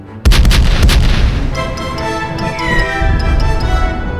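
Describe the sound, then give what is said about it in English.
Three cannons in a neat line, touched off by fuses, fire in a quick run of loud, booming blasts close together, then a dense rumbling roar with faint ringing tones lingers. No one speaks. “The three cannons roared in a neat line, the black smoke of the discharge blocking their view for a few moments.”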